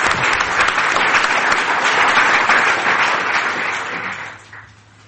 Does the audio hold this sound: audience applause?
yes